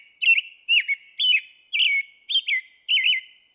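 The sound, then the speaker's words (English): A thrush with slate gray wings and a darker head sings a melodious, warbling song in six short, fluty phrases separated by brief pauses, clear with no other sounds around it. “So they can sing multiple notes at once and kind of layer them on top of each other to create this really melodious warbling sound.”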